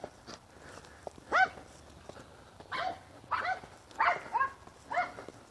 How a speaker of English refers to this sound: Oh, a yappy dog. Hush, dog, hush.